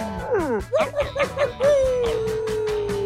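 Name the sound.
people imitating wolf howls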